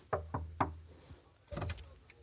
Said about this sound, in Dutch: Beste luisteraars, wij staan voor de deur van een van de bewoners. We gaan even kloppen en zien of dat die aanwezig is.